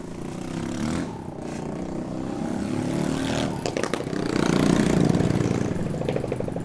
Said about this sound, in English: Not a busy street, but still, cars and bikes going each way.